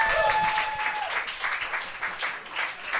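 A crowd applauds steadily, many hands clapping in a dense, continuous patter that stays loud throughout with slight swells, and a brief high whistle-like tone rings out at the start.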